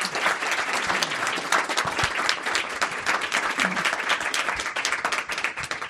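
Sustained applause from an audience, a dense, even wash of many hands clapping at a steady loudness for the full stretch, with no voices standing out.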